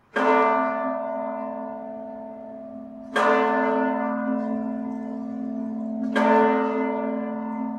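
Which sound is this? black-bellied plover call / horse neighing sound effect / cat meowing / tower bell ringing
tower bell ringing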